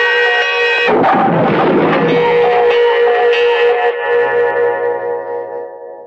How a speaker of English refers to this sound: Fitch's body, thrown back by the explosion, toppled over, crashing all his clocks to the floor.